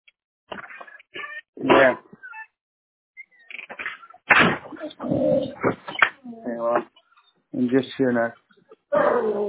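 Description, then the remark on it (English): Two dogs whine and whimper for attention in a string of short, high, pleading cries with brief pauses between them, sounding thin and muffled as if heard over a phone line. “Two dogs here now. Calling for my attention.”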